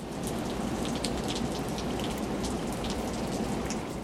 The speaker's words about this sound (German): Als sie in der Luft waren, fing es an zu regnen.